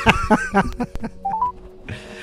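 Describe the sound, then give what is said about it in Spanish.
A quick run of short electronic telephone keypad tones, about five beeps in steady succession, followed by a few fainter tones and a brief hiss at the end. “Hemos dicho que íbamos a llamarlo”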